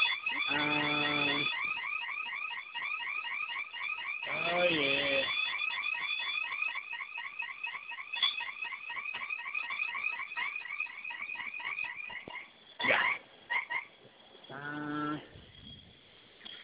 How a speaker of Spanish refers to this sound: Déjame quitar la alarma, aguántame un poquito.